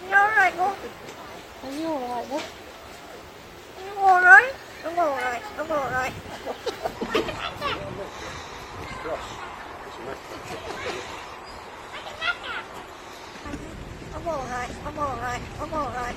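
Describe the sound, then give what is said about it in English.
A crow trained to mimic a human voice in a British accent produces short, warbling, pitch-swooping phrases such as "I'm all right" and "Are you all right, love?", somewhat faint and muffled against steady wind-like rumble and noise. “It may be a little hard for some of our listeners to hear, but the bird says, I think I'm all right, but in a British accent.”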